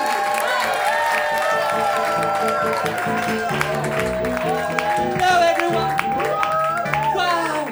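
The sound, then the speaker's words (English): An audience claps, whoops and cheers loudly and continuously on a count of three as the Drag Crowd Review act is introduced on stage, with high shrill whoops and whistles rising above steady dense applause throughout. “So I start you clapping and whooping and cheering after three.”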